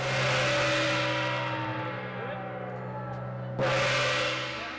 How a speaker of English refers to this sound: Okay, that gong means that we have already packaged 7,000 meals. We are way ahead of schedule at this point.